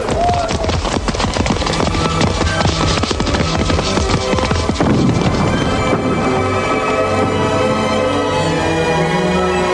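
A horse neighs amid the steady clip-clop of hooves, the hoofbeats loud at first and then blending into a dense, busy background of clatter and movement.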